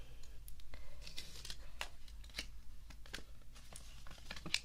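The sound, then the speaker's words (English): Paper and a pen being picked up: soft rustles and crinkles with scattered light taps and clicks, quiet and irregular over a few seconds, with no one talking. “Let me get my paper and pen.”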